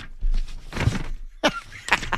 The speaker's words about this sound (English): As he goes through his notes, fumbling around. Now here's what you're going to hear. Quiet. Hammering, hawing, lip smacking.